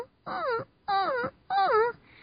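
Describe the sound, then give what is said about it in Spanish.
A voice imitates a crying puppy as a vocal compression exercise, with three high, wavering whimpers, each about half a second long and separated by short pauses, clear with no talking. “Por eso compresión vocal, ya había hecho un audio sobre ello, ejercicios que no sé si han escuchado todos, pero simplemente es un sonido como de un perrito llorando, que es un...”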